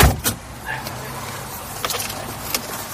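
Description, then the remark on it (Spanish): People climb into a driving-school car: a heavy thump near the start, then shuffling and a couple of sharp clicks and knocks, like doors and seats being settled, with no talking. “Así que vamos a entrar todos al coche y vamos a ver cómo se nos da el tema.”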